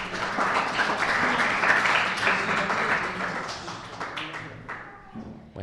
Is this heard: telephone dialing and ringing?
no